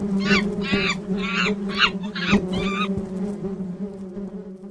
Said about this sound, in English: So when a hungry monkey comes lurking around, looking for eggs, it's gonna wish it was never born when it gets a face full of bees!